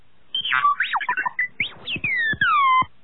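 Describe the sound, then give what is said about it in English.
A droid, Tonin, beeping a question: rapid, chattering electronic beeps with quick warbling chirps and pitch swoops, then a few longer tones sliding downward. No voices. “Tonin beeped a question.”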